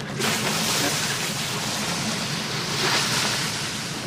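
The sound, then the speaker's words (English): Water poured over a hot lava sample hisses and bubbles steadily, a loud, continuous roiling sizzle with a slight surge near the end and no voices. “Oh, it's really bubbling in there.”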